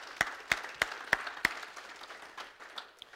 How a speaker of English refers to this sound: So, listen, give yourselves a hearty round of applause because you are excelling at this core value. Give yourselves a hand.